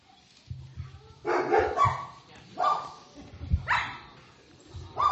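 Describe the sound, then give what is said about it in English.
A dog, Yogi, about 3 years old, a country dog that gets excited when it sees other dogs, barks excitedly in a few loud bursts, with short yips and whines between them, while low rumbling background noise continues. “and this is Yogi, and he's about 3 years old, and he's kind of a country dog, so he gets all excited when he sees other dogs.”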